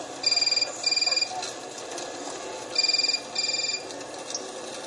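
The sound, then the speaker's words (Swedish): A telephone rings twice with the classic double-ring pattern as a call is placed to a doctor in Angola, each burst a bright, tinny electronic trill, heard over a steady hiss of background noise with a faint murmur underneath. “Ringer läkaren i Angola.”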